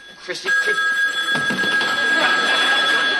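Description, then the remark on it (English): A telephone rings continuously with a steady, shrill electronic trill that fills the whole moment, while voices talk briefly underneath it. “Do you have to use that hand to hold the phone?”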